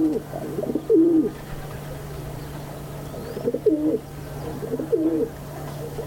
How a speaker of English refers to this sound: By northern India's Lake Pichola, rock doves roost on a windowsill at water's edge.